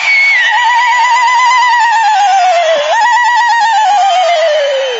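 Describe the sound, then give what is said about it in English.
At offering time in a church service, the audience's women ululate and the men whistle together, a loud, continuous wash of high, warbling trills that wavers in pitch for the whole stretch without a break or any talking. “Okay, shall I announce that it is offering time, and are the ladies prepared to whistle? To luluate, and the men to whistle.”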